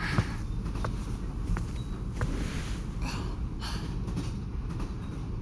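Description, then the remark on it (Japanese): The sleeper train Kurasata rolls along the rails from Irkutsk toward Lake Baikal with a steady, heavy low rumble, punctuated every second or so by sharp clacks of wheels crossing track joints. No voices. “それでは、寝台列車クラサター号の進路についてご説明いたします。”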